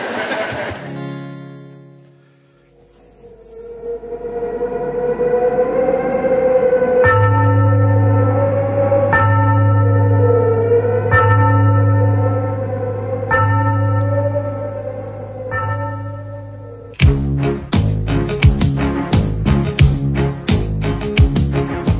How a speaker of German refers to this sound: Nacht am 12 wie der Wind weht durch ein Schlossgang. Es ist die Geisterstunde beim letzten Glockenschlag.